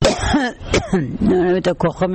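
woman coughing

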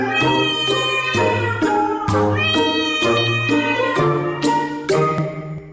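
domestic cat meowing

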